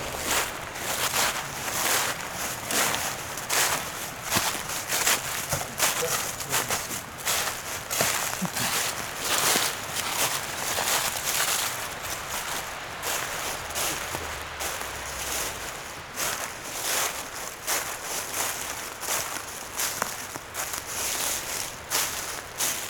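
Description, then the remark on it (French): Steady footsteps of a walker crunch and rustle through dry autumn leaves on a Pyrenean forest floor, a continuous crackling shuffle with brief bright bursts at each step, moderately loud and without any voices. “J'aime particulièrement le bruissement de ces feuilles automnales sous mes pieds.”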